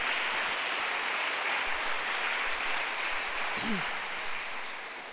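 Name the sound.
audience applauding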